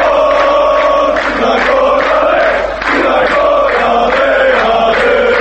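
A loud stadium crowd of football fans at a qualifying match for this year's European Football Championship chants and cheers continuously, many voices blending into a dense, rhythmic roar with swelling tonal chanting that briefly dips midway before surging again.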